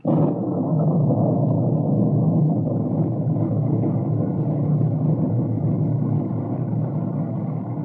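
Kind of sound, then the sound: nature, storm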